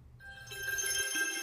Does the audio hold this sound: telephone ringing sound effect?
yes